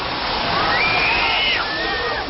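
A fire hose on a converted fire truck blasts chicken bouillon in a loud, steady rushing spray that fills the whole moment, with a thin high-pitched whine rising and gliding faintly above the torrent.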